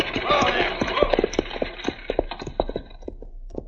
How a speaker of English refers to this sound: All right, Shorty, pull up them horses.